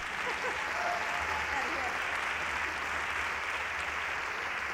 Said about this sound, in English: you can applaud, that's okay.